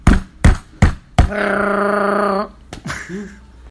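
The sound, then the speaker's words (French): Four sharp hammer strikes land in a quick, steady rhythm, then a loud sustained buzzing drone takes over before one more knock and a brief low vocal sound. “Je prends le marteau.”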